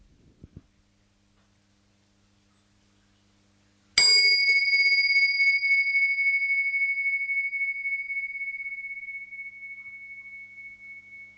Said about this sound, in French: Voilà, alors je vais démarrer par un petit son de cloche pour vous inviter à ce qu'on démarre tous ensemble.